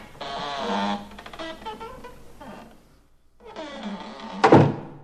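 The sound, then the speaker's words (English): A heavy door in a mountain wall groans and creaks with rattling strain as someone tries it, falls quiet briefly, then creaks again and ends in a loud thud as it swings open. “Wow, here's a door in the mountain wall. Well, I can at least try.”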